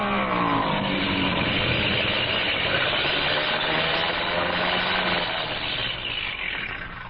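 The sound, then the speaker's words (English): A loud airplane engine that has been acting up drones steadily as the plane comes in fast to land, its roar dipping slightly in pitch early on and easing off a little at the end. No one speaks. “Engine's been acting up. I was afraid to trust it.”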